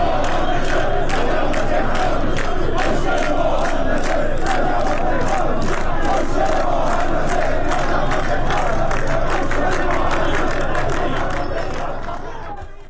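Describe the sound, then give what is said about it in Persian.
A large crowd of protesting firefighters in Tehran chants slogans in unison, such as "A decent livelihood is our undeniable right" and "We are tired of promises and lies", loud and rhythmic with steady repeated beats, voices massed together before the sound fades out at the end. “آنها از جمله شعار دادند معیشت مناسب حق مسلم ماست و خسته ایم از وعده و دروغ، نه از آتش و دود.”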